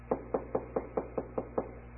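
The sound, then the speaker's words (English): Eight quick, evenly spaced knocks on a wooden garden gate by someone standing outside it, dull, rapping in a steady rhythm with no voices. “One day, while Will was in that garden, wondering how it was all going to end, he heard a knock.”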